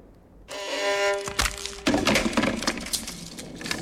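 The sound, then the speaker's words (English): A sustained violin tone rings out, then loud wooden cracks and splintering crunches as a foot goes through the bridge of a 17th-century violin made by Nicola Amati at Cremona and the soundpost is sat on, followed by a scatter of irregular snapping and creaking noises. “He's put his foot through the bridge and sat on the soundpost.”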